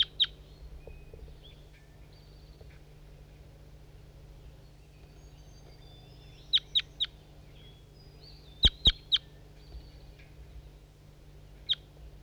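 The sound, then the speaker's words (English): A bird gives loud, sharp, high-pitched calls in brief clusters of two or three notes, separated by pauses, over a steady low background hum. “These are the calls of bird 5-3.”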